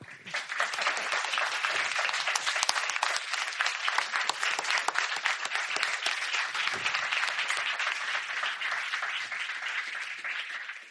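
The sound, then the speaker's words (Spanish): Sustained audience applause for guests who have stood up, a dense steady wash of many hands clapping at an even loudness for about eleven seconds, with no voices standing out above it. “Levantaos para que os podamos aplaudir un poco.”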